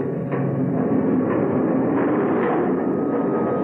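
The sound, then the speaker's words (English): A train pulls away from a station platform with a steady, loud rumble and clatter, a dense mechanical roar that stays constant throughout without any voices. “At last, the train started.”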